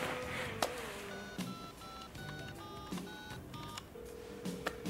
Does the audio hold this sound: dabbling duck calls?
no